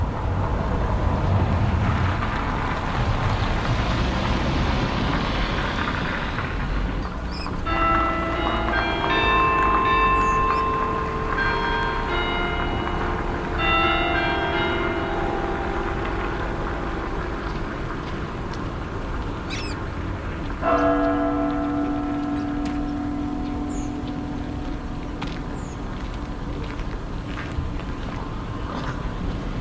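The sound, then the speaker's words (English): A church bell strikes one o'clock in the afternoon over steady road traffic, its clanging strikes leaving long, shimmering tones that slowly fade. A second strike follows later and rings on. No one speaks. “Wow, the church has just struck one.”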